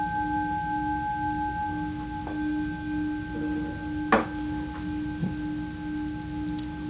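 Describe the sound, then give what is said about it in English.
A bell rings over a Zoom call, with the audio set to live performance, with a steady, sustained hum of layered tones that holds throughout. Two brief sharp taps break in near the end, and no one speaks. “With Zoom, in order for the sound of the bell to come through, you have to change it to live performance.”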